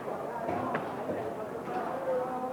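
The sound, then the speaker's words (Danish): Busy market ambience at the market in Canton: a steady wash of overlapping voices and crowd murmur, with a few dull, muffled thuds of a butcher cutting large pieces of meat with a very large knife, and scattered clatter rising briefly above the constant bustle. “Ingen djævel kan høre, hvad det her er, men det er altså markedet.”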